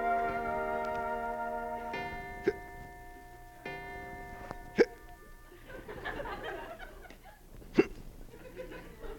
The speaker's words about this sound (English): do you have the hiccups?